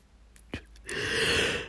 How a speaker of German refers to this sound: Mein Hirn entspannt sich schon wieder. Gähnen ist ja auch was Positives. Muss ja nichts Negatives sein.